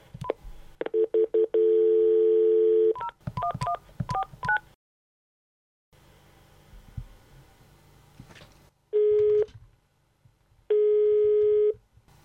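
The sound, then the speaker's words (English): Dialing a telephone call to Germany: a quick run of touch-tone dialing beeps and a steady tone, then a pause with faint line hiss, followed by two long, evenly spaced busy-signal tones. “It's getting pretty late in Germany, so let's give Pfizer Wolf a call.”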